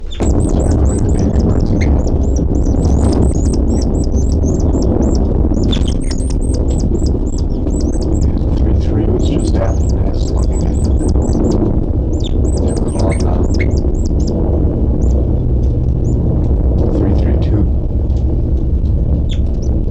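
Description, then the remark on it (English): Dense, rapid high-pitched bird calls, mainly from birds labelled 3-3 and occasionally 3-2-7, chatter almost continuously, sharp chirps and squawks overlapping over a loud, steady low rumble, thinning out somewhat in the second half. “And nothing now except for the calls of 3-3 and occasionally 3-2-7 stuff.”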